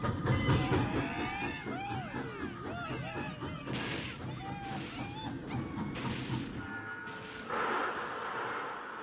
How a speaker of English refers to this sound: Can you move it? But why? Railroad's coming through. Right now.